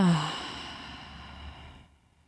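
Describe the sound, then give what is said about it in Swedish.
A slow, audible breath out through the mouth during a guided breathing exercise, following a deep breath in through the nose; a soft airy whoosh that starts with a slight voiced edge, then thins and fades away after about two seconds. Quiet, with no talking. “Och andas långsamt ut genom munnen.”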